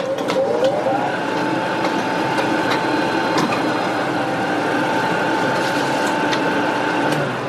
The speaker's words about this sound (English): Guys, it's easy. Copy machine.